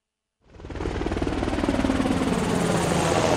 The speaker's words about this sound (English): The Navy Seahawk helicopter has a lift capacity of over 6,000 pounds.